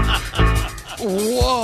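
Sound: fart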